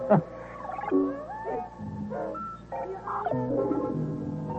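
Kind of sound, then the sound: bird, rooster crowing at dawn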